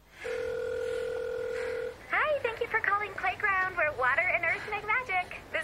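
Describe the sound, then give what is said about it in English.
A steady electronic telephone tone sounds clearly for almost two seconds as a woman, slowing to a walk, calls another number on her phone. The tone is like a line ringing or dialing, then cuts off as a person starts talking. “She slows to a walk as she brings up another number on her phone.”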